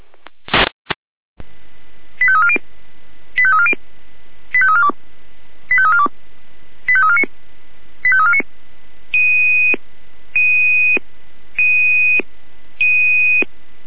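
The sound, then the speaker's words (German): A brief burst of radio static, then a repeating sequence of electronic alert tones from the Jena control centre alerting fire crews to a building fire: six quick warbling tone groups followed by four longer steady two-pitch beeps, loud and clear over a faint hiss. “Es geht nach Kräuter, Kräuter Nummer 9, Brandgebäude, Leit Jena Alarmierung, 18.07 Uhr Ende.”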